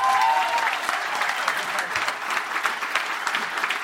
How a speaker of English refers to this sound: Give you a round of applause to all our guests today.